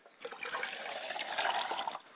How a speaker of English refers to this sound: We like to pour libations to the east, and we say Ashe.